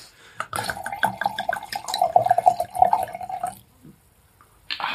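Pinot Grigio wine glugs steadily into a glass for about three seconds, fairly loud, with a gurgling, bubbling rhythm. A brief pause follows, then a short clatter right at the end.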